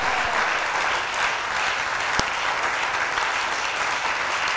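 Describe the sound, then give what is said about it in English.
An audience claps together in a dense, steady wash of many hands, sustained and fairly loud throughout, with one sharper clap standing out midway. No voices are heard. “Any clap you do, may it open a door of divine access unto you.”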